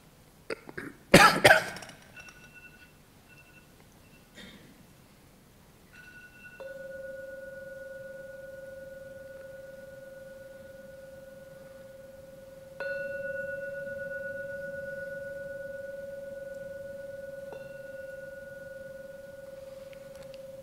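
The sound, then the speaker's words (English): A gong is struck three times at slow, even intervals, each strike blooming into a steady, sustained ringing tone that layers over the last. A brief cough-like burst comes before the first strike. “I will now ring the gong 3 times.”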